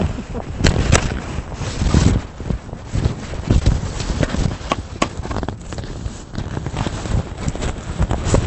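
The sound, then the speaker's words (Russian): Horse hooves clip-clop steadily in an uneven rhythm, with gusty wind buffeting the microphone throughout and no clear voices. “Ладно, я говорю, будут лошадь украшать.”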